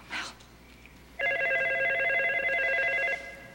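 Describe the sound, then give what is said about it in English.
A telephone rings once, a loud electronic trill lasting about two seconds, after a brief soft rustle and quiet room tone. “she glances at the phone in frustration. Mel goes to answer it.”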